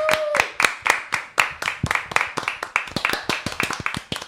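A few people clap in a studio, a steady stream of sharp, crisp hand claps lasting several seconds, with a brief high vocal whoop at the very start.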